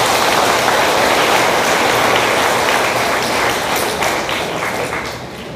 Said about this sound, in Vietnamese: Nếu các con có nghĩ như thế thì hãy cho một tràng vỗ tay thật lớn.